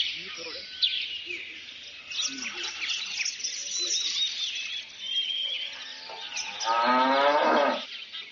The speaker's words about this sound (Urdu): چار نمبر کے پیچھے کون سی مخلوق ہے؟ جناب گائے آ گئی ہے.